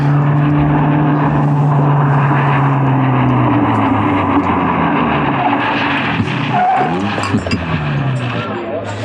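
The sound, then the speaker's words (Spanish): A car engine drones loudly and steadily, then its pitch slides downward as the vehicle slows, with a brief tire skid near the end as it comes to a halt. “Detén el auto. Tatake obedece.”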